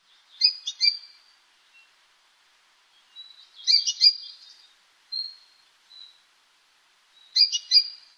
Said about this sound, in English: Amakihi call notes are variable in inflection, but all calls have in common a raspy, squawky, or buzzy quality. Here are five examples, beginning with the most often heard. Here is an unusual Amakihi call.